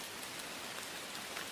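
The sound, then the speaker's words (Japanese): Steady rain falls in a dense, even hiss with faint patters of drops striking a surface, fairly quiet and continuous throughout, with no voices. “雨音が好き。”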